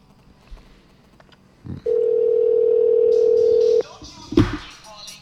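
A steady, loud cell phone dial tone hums for about two seconds as someone calls their own cell phone to test it, then cuts off, followed by a brief keypad beep and some faint handling noise over a quiet background.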